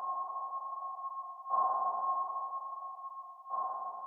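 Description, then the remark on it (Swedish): Echo-sounder sonar pings, as used on a search boat at Loch Ness, repeat about every two seconds over a steady, droning electronic tone. Each ping swells suddenly and then fades slowly into the hum. No voices are heard. “För att verkligen lyckas upptäcka monstret och varenda dold vrå av sjön så användes satellitnavigeringsteknik och 600 ekolodstrålar.”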